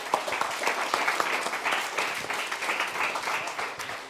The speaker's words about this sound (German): Einmal einen großen Applaus an uns alle.